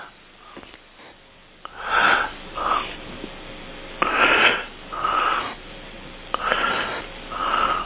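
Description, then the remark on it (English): Rhythmic snoring comes through a thin, muffled phone line during a conference call, with about six raspy inhale-exhale cycles repeating steadily and fairly loud, with no one talking. “That's not a heavy breathing, that's snoring.”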